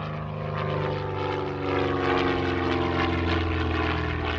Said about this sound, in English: Seal lands his plane at Los Brasiles Air Base in Managua, Nicaragua. His new, bigger aircraft is capable of transporting 24,000 pounds of cargo.